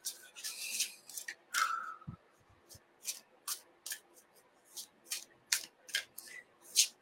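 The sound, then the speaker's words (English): A deck of oracle cards being shuffled, a series of crisp, papery riffling bursts repeating in an uneven rhythm, with brief quiet gaps between them and no talking. “Okay, so I'm going to now shuffle.”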